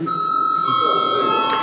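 signal or alarm, parliament chamber bell ringing

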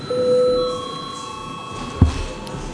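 signal or alarm, parliament session bell ringing

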